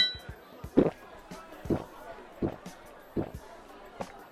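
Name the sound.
drinking glasses clinking together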